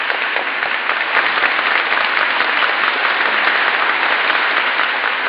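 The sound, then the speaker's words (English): Loud, sustained applause from a large crowd, a dense, steady roar of clapping with no breaks, holding at full strength for the whole stretch as an ovation for President Roosevelt at the House of Representatives. “Bankhead has just announced the President of the United States, and here's the ovation for the President.”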